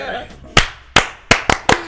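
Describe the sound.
Cuban-style applause: five sharp, loud claps in a syncopated pattern, two spaced slowly, then three in quicker succession, after a brief murmur of voices at the start.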